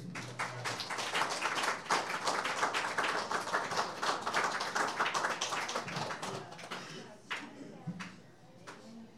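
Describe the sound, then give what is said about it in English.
An audience applauds with dense, steady clapping for several seconds, then the applause thins out to a few scattered claps near the end. “Please, a big hand”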